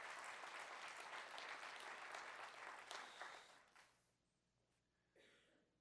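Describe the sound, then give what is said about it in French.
A crowd applauds steadily for about four seconds, a dense burst of many clapping hands that then fades out quickly, leaving near silence with a brief faint sound at the end. “Come on, une bonne main d'applaudissement encore pour cette simplicité.”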